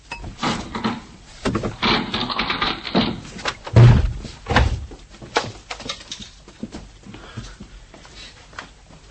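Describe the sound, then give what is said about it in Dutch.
A door padlocked on the outside is forced with an iron bar: scraping, rattling metal strikes build into two heavy, booming thuds, followed by scattered knocks and clatter as the door gives way. No one speaks. “Er zit aan de buitenkant een hangslot op de deur.”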